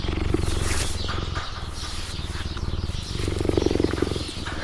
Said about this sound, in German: Wow, das Schnurren einer Gepardin.